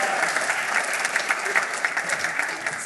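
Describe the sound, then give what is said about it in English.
A crowd applauds a volunteer as he is sent off the stage, a dense wash of many hands clapping at once, fairly loud and sustained throughout without pauses, no voices standing out. “Round of applause.”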